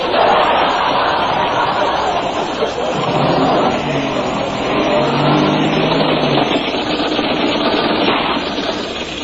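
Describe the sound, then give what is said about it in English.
A car engine revs loudly and pulls away with several passengers aboard, its drone holding steady throughout, with a brief rising tone in the middle and faint voices and laughter underneath. “It's my car. Do you like going fast, girls?”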